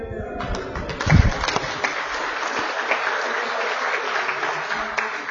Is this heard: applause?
yes